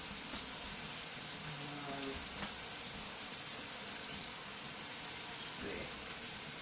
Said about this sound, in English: actually I'm going to use the same measuring cup to pour the popcorn in. So maybe I'll just give it a quick washing.